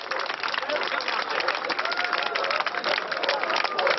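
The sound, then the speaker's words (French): Thousands of East Germans surge through the opened gates of the border between East and West around 11 pm, border guards not intervening: a dense, continuous roar of overlapping voices and shuffling movement, loud, with scattered claps and shouts rising from the commotion. “Vers 23h la nuit dernière, des milliers d'Allemands de l'Est ont forcé les frontières qui séparaient l'Est et l'Ouest.”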